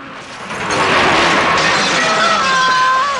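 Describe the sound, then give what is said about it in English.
A loud crash and smash as a boat on a river ploughs through a wedding cake and collapses a marquee, with clattering, tearing debris lasting a few seconds and a thin whining tone near the end. “The last boat goes via the wedding cake.”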